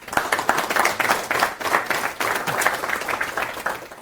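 A crowd applauds steadily for about four seconds to welcome the next speaker at a conference session, many overlapping claps forming a dense, fairly loud patter that holds without fading.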